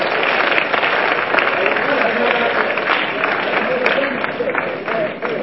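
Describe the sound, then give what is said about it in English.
Steady applause from an audience fills the whole stretch, many hands clapping at once in a dense, even wash of sound with no pauses and no distinct voices standing out. “Clap your hands for them.”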